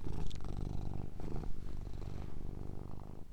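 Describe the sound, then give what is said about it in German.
A cat named Leni purring steadily, a continuous low rumbling with a soft pulsing rhythm, fairly quiet and with no voices over it. “Hört ihr Lenis Schnurren?”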